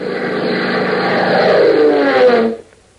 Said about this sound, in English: a sleek, streamlined Beechcraft biplane, its powerful engine drumming smoothly, holds a northwesterly course for Lakeville